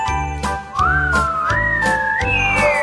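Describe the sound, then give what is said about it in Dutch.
A clear, flute-like whistle glides slowly upward in long sliding notes, imitating wind, played over steady background music with a soft beat. “En de wind die maakte een geluid, het leek wel op een fluit.”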